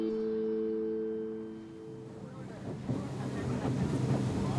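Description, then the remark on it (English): A boat motor drones steadily as the boat moves upstream on a river in the California delta, its hum gradually swallowed by rushing water and wind buffeting the microphone. “On the boat, we continue upstream.”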